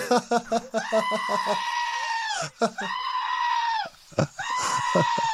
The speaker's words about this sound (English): That's a goat. That is a goat. Just so you know. Is it really a goat? That's a goat screaming.